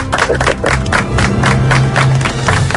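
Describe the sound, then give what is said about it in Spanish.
An audience breaks into steady applause for Olympic rider Rafael Soto of the Real Escuela Andaluza, dense overlapping claps filling the space, with a murmur of crowd voices and a brief cheer rising underneath. “Bona tarda, Rafael, un aplaudiment per tu.”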